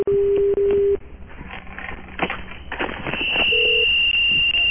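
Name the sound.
telephone keypad DTMF tones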